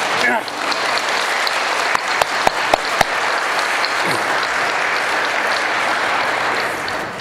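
A crowd claps for the choir steadily and densely for several seconds, a broad sustained wash of applause with a few sharper individual claps standing out early on.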